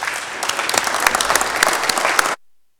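A room full of people claps steadily for a couple of seconds, a dense, lively burst of applause that cuts off abruptly.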